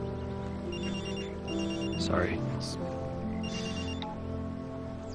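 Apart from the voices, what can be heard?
telephone ringing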